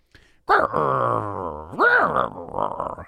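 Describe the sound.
A person imitates with their voice a growl of Cooper, a dog, growl number three: a low sustained rumbling groan that rises sharply in pitch midway, then breaks into rough, uneven grunting sounds.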